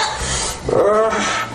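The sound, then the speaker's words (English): A woman's voice lets out a short, strained bark-like yelp, like Tourette's noises, over a rough, raspy breathy noise, one vocal burst in the middle of a brief clip during a sex scene. “I mean, she's making all kinds of barking noise, like Tourette's noises.”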